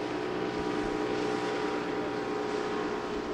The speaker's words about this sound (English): In less than an hour, UNC Wilmington Senior Research Associate Troy Alphen has heard 50 boats cruise by, churning the water into heavy ripples. Those boat wakes, none of them are huge, but it's a constant erosive force.